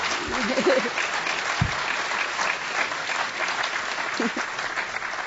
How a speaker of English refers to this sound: Each of our speakers, let me just ask for a round of applause for these wonderful people.